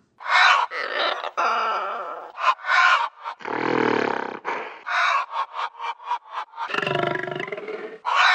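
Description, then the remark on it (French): Choppy hen-like clucks and squawks alternate with two deep, rasping big-cat roars, loud, blending into an invented hen and big-cat hybrid animal call with no talking. “Une poule fauve.”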